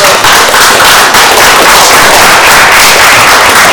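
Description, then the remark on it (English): Loud, sustained applause from a crowd for 41 Bachelor of Music graduates, a dense steady patter of many hands clapping at once that holds at full strength throughout without any voices. “And I'd like to give a round of applause.”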